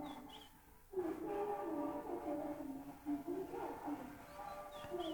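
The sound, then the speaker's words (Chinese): Music plays from a primary school's outdoor loudspeaker, a steady, somewhat muffled melody that carries on throughout, with faint ambient noise underneath. “哟，咱们等了一整期节目的这个小学的小学的大喇叭终于来了。”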